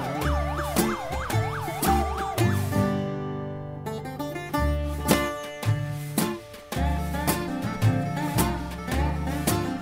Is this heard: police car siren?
yes